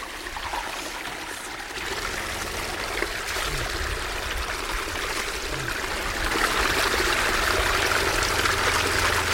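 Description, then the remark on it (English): Water splashes and sloshes steadily as a hand moves through it, a continuous wash of noise that grows a little louder toward the end, with no voices. “Time for a splashing.”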